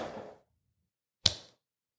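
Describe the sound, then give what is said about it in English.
A single sharp slap of a hand against skin, as someone swats at a fly on themselves and misses, rings out after a brief fading rustle and a moment of quiet, then quickly dies away. “I just slapped myself and still missed that fly.”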